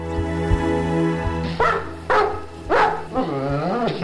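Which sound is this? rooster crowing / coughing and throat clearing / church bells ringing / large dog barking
large dog barking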